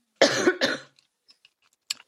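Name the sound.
cough and throat clearing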